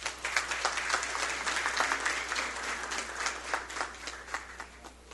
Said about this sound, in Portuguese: Desde já, também, antecipadamente, uma salva de palmas.